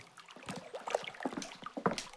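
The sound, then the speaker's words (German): Water splashes in a series of irregular bursts, with bright sloshing and dripping, a few sharper slaps standing out above a steady wet churning. “Hey, hör auf mit dem Wasser zu spritzen.”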